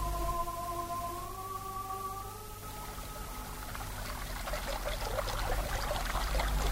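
A river in a valley flows steadily at dusk with a constant rushing wash, growing splashier and more trickling in the second half. A faint sustained tone hums through the first few seconds; no voices.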